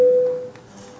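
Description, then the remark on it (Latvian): A single steady electronic bell tone sounds clearly in a parliament session, rung before deputies vote on a proposal, holding an even pitch for a moment before fading away into quiet ambience. No one speaks. “Lūdzu zvanu.”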